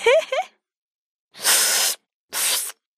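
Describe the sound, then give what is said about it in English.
Someone imitates slurping ramen noodles, without actual noodles, with two loud, breathy sucking bursts of air, the first longer than the second, after a short voiced sound at the start. “But the Japanese slurp their noodles.”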